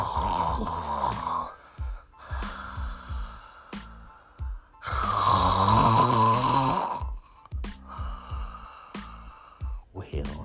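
snoring

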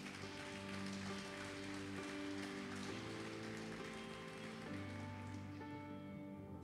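audience applauding

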